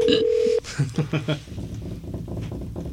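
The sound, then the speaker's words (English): A steady electronic phone tone sounds for about half a second, then a quick run of short, low beeps follows, heard through a phone line on an outgoing call, with faint background murmur afterward. “All right, it's ringing.”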